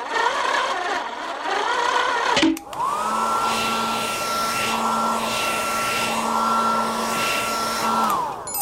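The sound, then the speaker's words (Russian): A hair dryer, used to dry the paint on a toy sailboat, switches on and blows steadily with a loud, constant whirring hum for several seconds, then winds down, following a brief stretch of busy background noise. “а у тебя же в помогаторе есть фен. Может, включишь его, чтобы быстрее высушить кораблик?”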